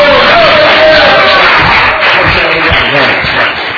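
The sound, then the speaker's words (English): A large audience claps and cheers loudly for a few seconds, a dense, steady roar of applause mixed with shouts and whoops that fades slightly at the end. “Can you guys just a round of applause?”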